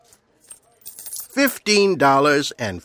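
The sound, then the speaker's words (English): A soft metallic jingle of a few small coins being handed over as change at a checkout, faint and brief at the start, followed by louder voiced vocal sounds that take over the rest of the moment. “A few small coins for your piggy bank.”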